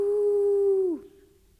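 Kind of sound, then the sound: animal, wolf howling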